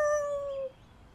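A single short dog howl, a steady high-pitched tonal wail held for just over half a second before cutting off abruptly, leaving faint background hiss.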